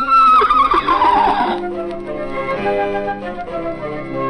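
A horse lets out a loud whinny that shakes and falls in pitch over about a second and a half, then gives way to a steady, lingering tonal backdrop.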